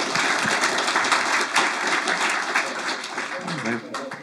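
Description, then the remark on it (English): Sustained crowd applause for a panel of comics writers, a dense, steady wash of many hands clapping at a fairly loud, even level, with a voice briefly audible near the end as the clapping begins to thin. “Please round applause for the panelists then.”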